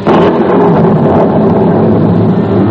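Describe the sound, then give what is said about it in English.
A loud, continuous rolling rumble of thunder from an approaching storm, deep and steady for a few seconds without breaking, with no voices over it. “As the little bearded man pointed the direction, Rip could hear the thunder of an approaching storm.”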